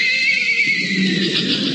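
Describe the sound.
A single horse whinny, loud, held as a steady, shrill high-pitched call for nearly two seconds with no talking over it.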